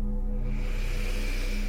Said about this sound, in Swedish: Andas in.